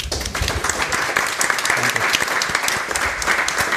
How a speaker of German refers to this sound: Und ich glaube, die hat einen Applaus verdient.